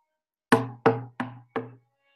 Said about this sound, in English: Oh, he knocked on some wood? No, it was a wood truck.